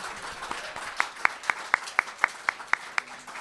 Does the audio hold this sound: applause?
yes